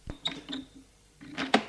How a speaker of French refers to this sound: Le père ouvre une porte.